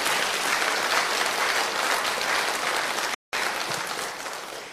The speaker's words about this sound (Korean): 이게 이해가 되면 여러분 박수로 기뻐해야 되는 거야.